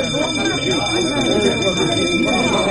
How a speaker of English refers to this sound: What the devil's that? The fire alarm. Excuse me.